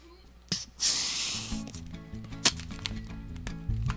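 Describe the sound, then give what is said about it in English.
A balloon being twisted into a balloon animal at radio station WMFO: rubbery squeaks that jump between pitches, with a hissing rush of air early on and a few sharp creaks. “It's a balloon. It's a balloon animal.”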